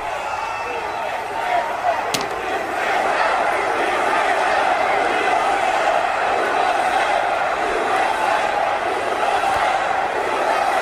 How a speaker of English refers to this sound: This is Trump's crowd in North Carolina last night. Absolutely amazing.